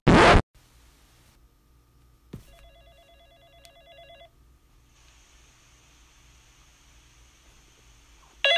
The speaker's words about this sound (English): the phone's ringing. Oh, it's 12:30 in the morning. Who's calling now?